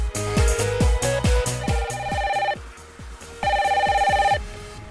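A telephone rings with another incoming call on a call-in program, in repeated bursts, its bright warbling electronic tone pulsing rapidly over a steady low throbbing beat, with a short pause before the ringing resumes. Clear, no one speaking.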